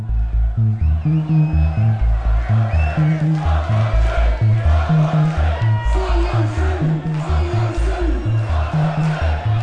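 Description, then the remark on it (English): A large crowd yells and chants "one more trick", calling for an encore, loud and sustained, with a steady thumping low beat pulsing underneath the whole time. “I think that's a call for an encore, which they don't do.”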